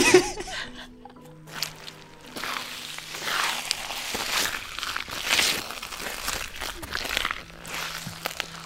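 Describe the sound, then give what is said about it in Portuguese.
Wet, squelching footsteps tramp through soggy wetland near a vereda in the Cerrado in a steady irregular rhythm, each step a soft slushy crunch, with faint voices and a brief chuckle in the background. “A gente andou perto de uma vereda e parecia que a gente estava caminhando na beira do mar.”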